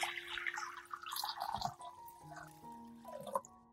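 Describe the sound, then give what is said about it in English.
Water runs and splashes into a basin being filled about half full for soaking washed coriander, a quiet, uneven trickling with small drips and splashes, over faint steady tones in the background. No one speaks. “Prepare a basin with water about half full.”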